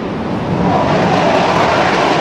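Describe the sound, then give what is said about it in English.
A Taiwanese jet fighter taking off: a loud, steady roar that fills the low and middle range and builds slightly as it goes, with no voices. “That's a Taiwanese jet fighter taking off in response to a Chinese military exercise, the largest ever around Taiwan.”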